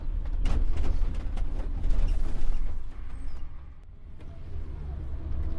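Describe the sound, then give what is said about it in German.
Interior noise of a moving bus driving through a tree-lined avenue toward a church in Riva: a steady low engine rumble with repeated creaks and rattles from the cabin, loud, easing off briefly before picking up again. No one speaks. “Zurück in Riva fährt der Bus jetzt hier durch eine sehr schöne Baumallee auf eine Kirche zu.”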